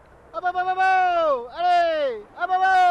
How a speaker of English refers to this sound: calls his sheep as he checks on a flock grazing the extensive grounds of a software firm outside of Paris.